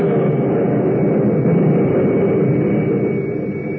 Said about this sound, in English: But then, as he starts forward in pursuit, he is stopped by a sudden blinding flash of lightning, a blazing arrow from the heavens that strikes at the center of the clearing.